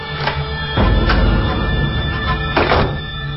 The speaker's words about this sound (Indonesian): Sekejap aku teringat kunci cadangan yang biasa ibu taruh di bawah pot bunga. Ini dia. Aku membuka pintu dan